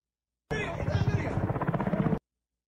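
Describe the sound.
A helicopter's rotor chops in a fast, steady rhythmic thumping for under two seconds, fairly loud and close, with faint muffled voices underneath.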